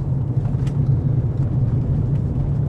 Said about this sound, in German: Jetzt geht's also zum Kap der Guten Hoffnung. Praktischerweise kann man direkt mit dem Auto ranfahren.